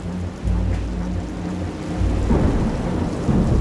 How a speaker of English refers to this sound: Now I looked around, and the thunder started booming, and the lightning was flashing, and I simply had to have shelter.